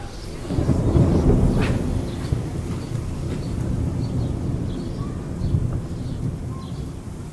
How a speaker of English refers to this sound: It's starting to rain a little, so go under the clock in this little space till the rain passes.